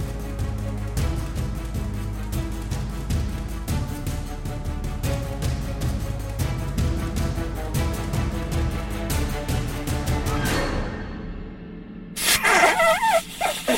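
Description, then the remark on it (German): A steady, beat-driven music track plays, then sweeps down and fades out, followed by a loud, noisy burst of heavy snorting breath at the very end. “Sie schnaufen ja fast wie ein Elefant.”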